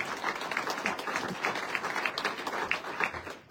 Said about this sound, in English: And before we give her a round of applause.